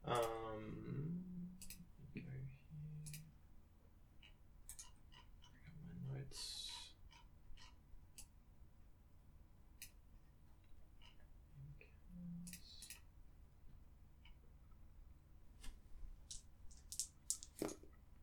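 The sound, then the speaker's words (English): Dice clatter and click across a hard surface in scattered, light taps, with a denser burst near the end, while a voice murmurs softly in the background. “Okay, he rolls very poorly.”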